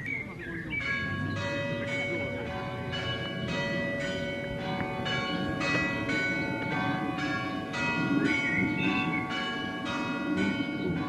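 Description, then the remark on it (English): Church bells ring steadily from nearby, a continuous peal of repeated strikes with long overlapping resonance, heard from a backyard at 7 p.m., while indistinct background chatter murmurs underneath. “sitting in …'s backyard with some friends, listening to the nearby church bells”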